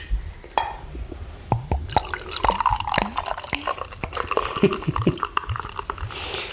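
Beer glugs and splashes into a glass, a rapid run of wet gurgles and drips with fizzing foam, lasting several seconds with no one speaking.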